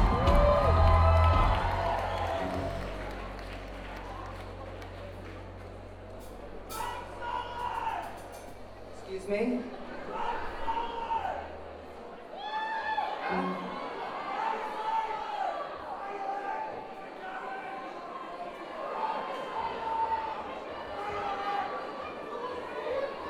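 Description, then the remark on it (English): A dense, noisy crowd of protesters shouting and screaming over one another, with raised voices overlapping continuously throughout and no single voice standing out. “It's a tad cacophonous out there, ladies and gentlemen. It's hard to distinguish one screaming voice from another.”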